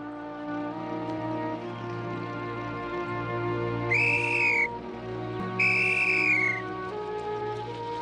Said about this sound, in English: Toomey puts his whistle to his mouth and signals for the men to move on.